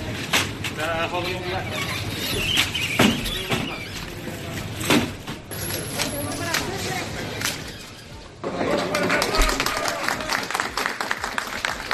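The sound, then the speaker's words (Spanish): Protesting milk producers clap steadily and loudly as a three-tier mobile pallet full of milk bottles, just removed from store shelves, passes, with scattered sharp claps and overlapping voices chattering and calling out; the applause dips briefly near the end, then swells again. “Aplauden el paso de un palé móvil de 3 pisos lleno de botellas de leche que acaban de ser retiradas de los expositores.”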